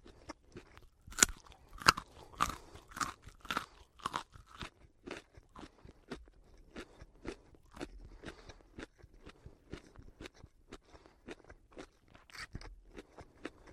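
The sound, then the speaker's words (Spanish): Crunchy chewing and biting as people eat a dinner of soup and grilled chicken breasts, a quick irregular series of crisp bites, louder and sharper in the first few seconds, then softer and steady, with no talking. “Mía pone la mesa, Pitágoras lleva la comida y se disponen a cenar.”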